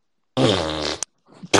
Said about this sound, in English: Who's just fucking farting? What's going on? All right, I'm gonna have to boot people if you're gonna be farting on the mic. Like, what the hell?